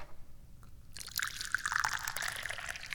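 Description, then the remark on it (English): Che Guan Yin tea is poured into a cup, starting after a quiet second and continuing as a steady splashing trickle with a rising gurgle. No one speaks. “I'm the chairman of the Dubious Goals Committee, and I'm pouring some tea.”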